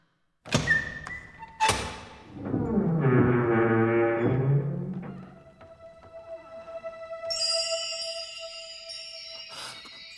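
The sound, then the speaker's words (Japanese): Two heavy thuds, then a long, low groaning rumble as a massive door in a Zelda story set in Hyrule grinds open to grant Link courage, followed by a bright, shimmering chime that rings on. No voices are heard. “今からこの扉を開け、あなたに勇気を授けます。”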